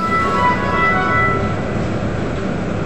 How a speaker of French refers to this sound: Il y a même un tramway qui passe devant le collège Colbert.